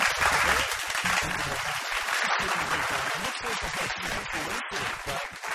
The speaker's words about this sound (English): we've got some applause for the tank